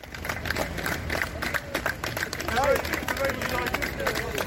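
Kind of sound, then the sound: crowd, applause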